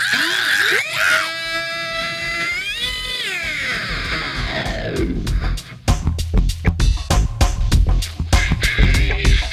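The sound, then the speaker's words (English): A person lets out loud, high-pitched, wavering screams, rising and falling in pitch, then the screaming gives way to a burst of rhythmic, pounding beats. “Scream one more time.”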